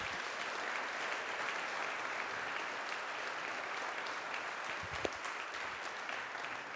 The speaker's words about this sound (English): So we've clapped twice. I'd like to do it one more time.